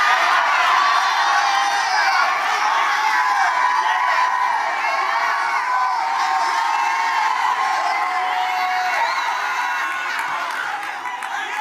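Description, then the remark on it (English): A large crowd shouts and cheers continuously, voices overlapping into a loud, sustained roar with occasional whoops rising above it, tapering slightly near the end. “Why you shouting?”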